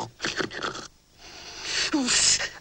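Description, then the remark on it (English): A person does an exaggerated, performed snore, close and loud: a few breathy, rasping snorts, a brief pause, then one long, noisy rattling breath. “snores.”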